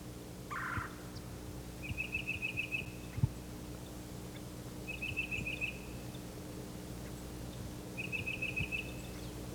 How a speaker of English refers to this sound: The flock is gathered here in a bare turkey oak. There are many birds, cardinals, titmice, myrtle warblers.